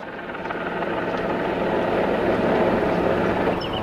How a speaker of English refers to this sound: After dropping off the detectives, the helicopter was supposed to pick up the coroner's office personnel. But the pilot got a distress call.